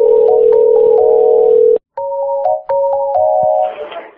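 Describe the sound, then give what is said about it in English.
A loud, steady electronic telephone tone drones on after a caller hangs up, broken by a brief silence and faint clicks, with higher beeping notes stepping in and out over it before it trails into hiss. “This woman over there hung up the phone. It got nasty and hung up the phone.”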